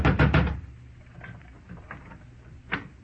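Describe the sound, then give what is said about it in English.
A quick burst of about four loud knocks on the front door of the house next door, reached up steps from the street, followed by quieter scattered thuds and one sharper rap near the end. No one speaks. “There was one answer to that, so I went out in the street and up the steps of the house next door and knocked, good and loud.”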